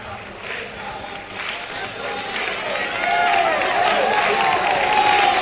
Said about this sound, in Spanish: La afición del Jerez que aplaude a los suyos.